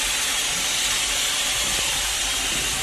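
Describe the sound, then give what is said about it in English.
A steam locomotive hisses steadily and loudly, a continuous rush of escaping steam with a faint low rumble beneath it and no voices. “This emits steam to the cylinder via the valve, which is controlled by the reversing gear.”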